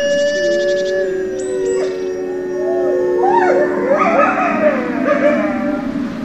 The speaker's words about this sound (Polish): bo być może niektóre wilki tutaj wyją po niemiecku